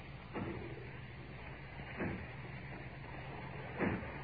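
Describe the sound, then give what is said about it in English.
Three dull, heavy thuds, spaced almost two seconds apart, as people break down the doors of a factory far off. The blows are muffled and distant over a steady background hum. “As if they were breaking down the doors. Aye. Yes, that's what they're doing.”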